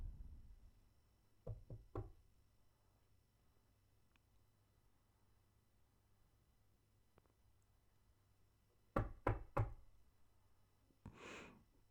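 knocking on a door

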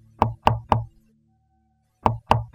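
knocking on a door

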